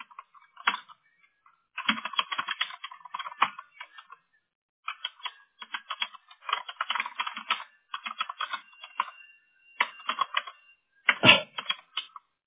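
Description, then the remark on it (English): Rapid, uneven bursts of clicking keys on a computer keyboard as someone fixes a typo in their notes, with short pauses between flurries and a heavier thunk near the end, likely the space bar or enter key. “I'm having a hard time typing.”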